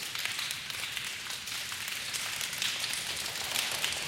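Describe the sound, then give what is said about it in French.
In a church, many fingers tapping against palms create a dense, steady patter imitating raindrops growing heavier before a storm, fairly soft and continuous from start to finish with no voices. “On commence à voir, en tapotant avec son doigt sur la main, ces gouttes qui deviennent de plus en plus lourdes.”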